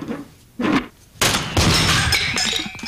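A hammer strikes hard: a short muffled knock first, then a loud crashing blow that bursts into clattering debris and a long, high metallic ringing that slowly fades.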